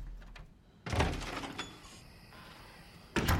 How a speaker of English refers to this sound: Maya straightens her robe and opens the front door.